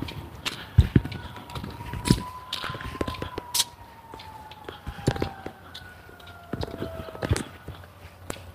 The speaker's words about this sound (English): Sirens are out in force this morning. That's a fire truck.